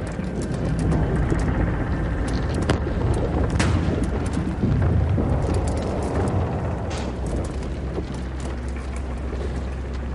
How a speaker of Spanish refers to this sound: Se escucha el ruido del barco y escuchas la presión en sus extremos. No se sabe si el barco se resquebrajaría. Las vigas comenzaron a romperse. Era como escuchar fuegos artificiales y armas disparando.